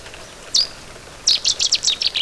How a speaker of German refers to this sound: Das ist er, der Vogel der Woche, der Seidensänger. Hat im Übrigen auch innerhalb dieser lauten Strophe durchaus individuelle Unterschiede.